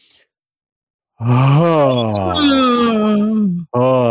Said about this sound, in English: Again, inhale. I can yawn. Yeah, you can yawn.